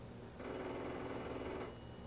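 A telephone rings once, a loud buzzing, trilling burst lasting a little over a second before cutting off, with a faint steady hum before and after and no voices.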